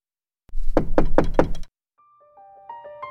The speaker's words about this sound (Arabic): من طرق الباب؟ صديقي طرق الباب.